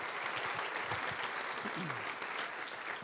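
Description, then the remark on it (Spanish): An audience claps steadily for the Lord, a dense, even wash of many hands that holds at the same level for a few seconds, with a faint voice briefly sliding down in pitch underneath. “¿Qué tal si le damos un aplauso fuerte al Señor por esta historia verídica que sucedió?”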